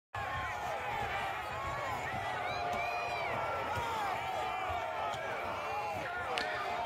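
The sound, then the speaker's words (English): A few sharp, scattered blows as two people bash the glass windows of the Capitol building, partly buried under a loud, continuous crowd of protesters shouting and booing them. “So Jackass 1 and 2 up there bashing the glass.”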